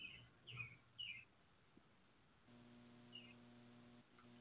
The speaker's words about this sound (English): I hear the birds. Right, yeah, because I live out in the crack of nowhere.